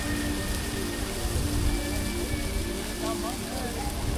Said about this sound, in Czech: Uklidňující šumění deště občas přehluší zahřmění hromu a s každým jeho úderem z vás odcházejí všechny negativní emoce.